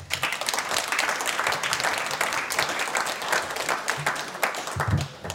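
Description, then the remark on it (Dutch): Sustained audience applause, a dense steady patter of many hands clapping at once, fairly loud and continuous for several seconds without any talking over it, as a presenter introduces novelist Erik Jan Harmens. “Dames en heren, ik vraag uw applaus voor Erik Jan Harmens.”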